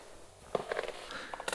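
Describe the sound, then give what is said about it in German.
A few faint, wet, sticky footsteps slowly descend a stairwell, one step after another, soft, with nothing else but quiet room tone. “Langsame, feuchte, klebrige Schritte, die lauter werden.”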